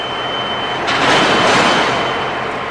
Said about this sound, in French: Voilà qui doit vous rappeler des souvenirs, Emmeline Landon, ces ambiances portuaires avec ces gigantesques conteneurs.